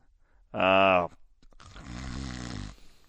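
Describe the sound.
Loud snoring: a short, harsh, buzzing snort followed by a longer, rumbling, breathy snore, with a brief pause between them.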